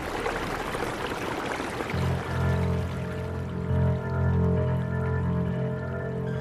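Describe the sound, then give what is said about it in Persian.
Rushing river water pours steadily, then a deep, steady droning hum rises beneath it and carries on to the end. No voices. “یه جاهایی فقط گل بود دیگه، ولی حس میکردم صدای آب هزار برابر بیشتر شده.”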